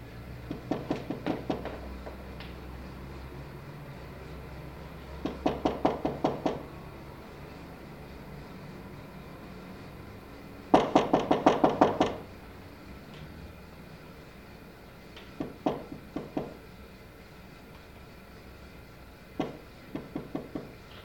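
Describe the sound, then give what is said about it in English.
Bursts of rapid knocking on an apartment door, recorded as a wild track for a film scene, several quick raps per burst, repeated about six times with pauses between, over a low steady room hum; no one speaks. “Wild track number 1052, for scene number 431, Ruth's door knocks in apartment.”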